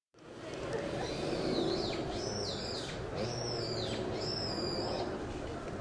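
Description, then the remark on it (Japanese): A brown-eared bulbul gives a series of shrill, swooping calls, three or four in a row, standing out clearly above a steady wash of outdoor background noise. “今泣いてもヒヨドリですね。”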